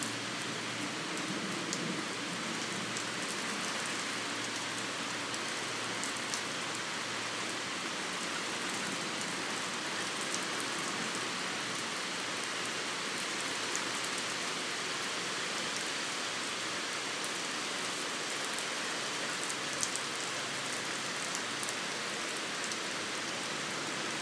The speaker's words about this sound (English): It's gotten much cooler out. It feels good outside now. I have to back up from my doorway. The wind is blowing the rain on me.